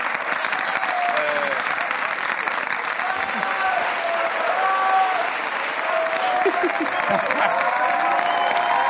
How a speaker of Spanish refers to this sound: Claro, el público, una ovación que le dio.